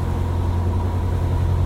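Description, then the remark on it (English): A steady, low engine drone fills a reverberant tunnel in a very new section lined with large concrete sections, the boomy hum holding constant throughout with no voices. “Interesting, very new section of the tunnel here. The acoustics changed somewhat, and it looks lined with large concrete sections.”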